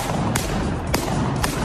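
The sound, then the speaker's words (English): Three sharp balloon pops, spaced about half a second apart, as feet stomp them; each burst is short and snappy over a steady, noisy background hiss. “These are balloons he's popping with his feet.”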